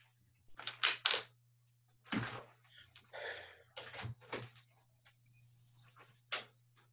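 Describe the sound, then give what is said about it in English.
A door opens with a few scraping, rustling bursts and a thin high squeak, then a final knock, as someone lets their dog, Moo Moo, out, all over a faint steady hum with no one talking. “I gotta let my dog out.”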